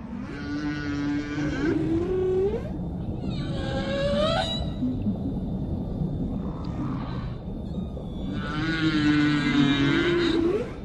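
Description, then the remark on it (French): Three long, moaning humpback whale calls with rich harmonics, each rising into a bending upsweep, repeating over a steady underwater hiss and low rumble, with short gaps between phrases, in waters off Hawaii. “Elles se laissent parfois dériver la tête en bas et se mettent à chanter.”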